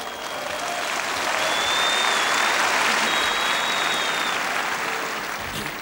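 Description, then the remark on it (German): Sustained applause from a large audience, a dense steady wash of clapping that swells over the first second and holds loud throughout, with no voices standing out. “So, nun wird der Beifall gleich aufhören, denn ich kann und will natürlich nicht verschweigen, dass ich davor 33 Jahre General im Ministerium für Staatssicherheit war.”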